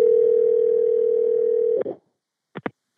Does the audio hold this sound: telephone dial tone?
yes